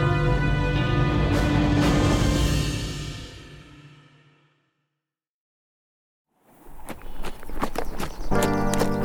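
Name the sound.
horse hooves clip-clopping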